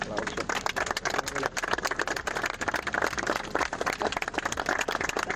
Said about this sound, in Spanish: Este es el bonito momento en el que todos los presentes rompen en aplausos en el puesto de mando de la granja para celebrar una noticia que llevábamos esperando durante los últimos 11 días.